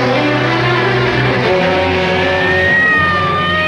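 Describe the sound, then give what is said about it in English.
An ambulance engine roars as it takes off and speeds through an intersection, a loud steady drone whose pitch climbs as it accelerates, with no voices. “The ambulance takes off and zooms through an intersection.”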